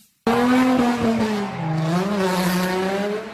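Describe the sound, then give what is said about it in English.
A car spinning out at a sideshow near the 19th Street Oakland BART station in downtown Oakland roars loudly near a crowd of spectators as its tires squeal in a long, wavering screech, the pitch sliding up and down for about three seconds before stopping abruptly. “And in downtown Oakland, a car spinning out got dangerously close to a crowd of spectators who had to move back.”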